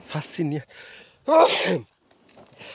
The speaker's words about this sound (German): Ich muss gleich niesen.